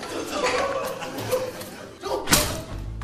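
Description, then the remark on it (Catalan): A history book slammed down hard in one sharp thud near the end to squash a spider on the floor, in the TV series Merlí, cutting through background chatter and some light laughter from several people. “Per aturar la revolta estudiantil, la Coralina agafa un llibre d'història i el converteix en una arma infal·lible contra l'aranya.”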